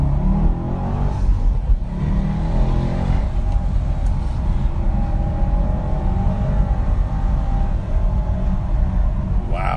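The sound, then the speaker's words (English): A Chevy SS race car engine roars loudly and continuously on a track course at turn 8, its pitch climbing and falling as it revs through gears, with heavy low rumble and road noise throughout. “And I'll stop talking and let the engine do the talking.”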